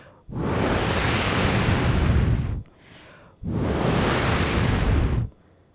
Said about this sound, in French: Petit bonhomme ouvre grand son sac et laisse rentrer le bruit du vent.